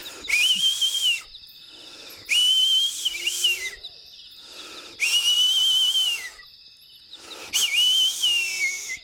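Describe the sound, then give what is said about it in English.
Four long, loud whistle blasts, each a steady high tone lasting about a second, separated by short pauses and accompanied by a breathy hiss: a herder whistling across mountains to signal that it is time to take the cows back from the river. “So if someone was taking cows to the river to drink, you know, the only way they would let the other guys know that now it's time to take the cows back was through like whistling.”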